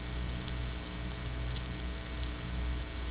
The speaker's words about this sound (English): This is the all buzz condition, and we are now remaking speech out of buzzer type energy, both in the case of voiced sounds and unvoiced sounds.